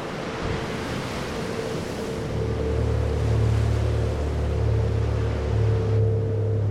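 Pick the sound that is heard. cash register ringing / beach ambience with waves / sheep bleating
beach ambience with waves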